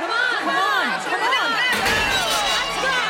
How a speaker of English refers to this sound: Oh, what's the shouting for? The other half of the city is rising up.